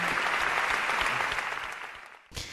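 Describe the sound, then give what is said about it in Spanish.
Dense crowd applause after traditional Galician songs, a steady wash of many hands clapping that gradually thins and fades, then a brief renewed burst right at the end. “¡Qué aplausos!”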